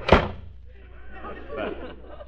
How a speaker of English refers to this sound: Close that cash register drawer. Okay.